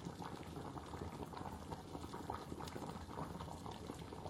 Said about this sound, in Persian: عدس و کچالو را جداگانه آب پس میکنیم تا خوب نرم شود.